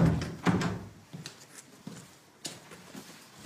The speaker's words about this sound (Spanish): De pronto, se escucha un golpe de mero formulismo sobre la puerta y esta se abre.